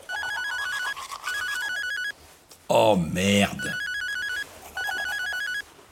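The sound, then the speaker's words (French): A mobile phone ringtone plays loudly, a bright warbling electronic melody in repeated bursts, briefly interrupted by a man's startled exclamation before the ringing resumes. “Alors qu'il va se brosser les dents, il voit alors son téléphone sonner.”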